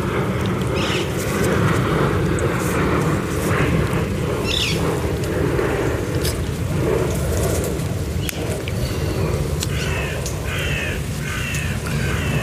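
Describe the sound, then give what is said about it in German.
A steady, loud low roar of an airplane passing overhead fills the background, with birds calling and chirping intermittently over it, including harsh crow-like caws. “jetzt liegt da ein Flugzeug über mir und versucht, den Vögeln Konkurrenz zu machen.”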